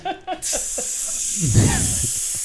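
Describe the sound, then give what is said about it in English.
A person makes a sustained, breathy hissing sound with the mouth, steady and fairly loud, after a couple of brief voiced bits, with a murmur of other voices partway through. “Don't make hissing sounds over there.”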